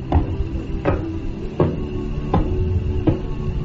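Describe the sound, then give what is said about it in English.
Sound of a pulsar star: five evenly spaced thuds, roughly three-quarters of a second apart, like slow knocking on a door, over a steady low droning hum. No voices. “Yes, this star, which is called Tariq, sounds just like the sound of the door being knocked by someone.”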